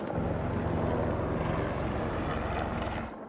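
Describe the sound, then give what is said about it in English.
Several helicopters fly overhead after an avalanche, slowly lowering with bodies hanging at the end of 100-foot lines; rotors thump in a steady, rapid rhythm with a loud engine roar, easing off slightly at the end. No one speaks. “And so for the rest of the afternoon, there's a parade of helicopters slowly lowering down, and they have bodies hanging at the end of 100-foot lines.”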